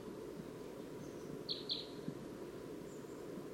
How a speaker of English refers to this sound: Stop. Recording that wild crossbill. Here it comes. It's coming down.